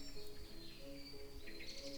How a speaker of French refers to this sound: Il y a des oiseaux,